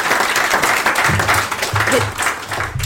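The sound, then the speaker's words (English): A room full of people applauds a speaker who has just finished a talk, dense overlapping claps with faint voices murmuring underneath. “Actually, we should clap you. We'll clap you.”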